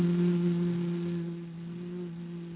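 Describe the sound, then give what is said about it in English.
A steady, low-toned human hum made while breathing out during a relaxation breathing exercise, held on a single note for a couple of seconds, smooth and unbroken, easing slightly in loudness toward the end. “And remember, when we're breathing out, we're going to add a low-toned hum.”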